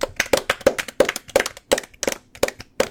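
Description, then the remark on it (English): Sharp, steady handclaps in a brisk even rhythm, each crisp smack distinct rather than a dense crowd roar, continuing for a few seconds with no voices. “Let's give a nice round of applause”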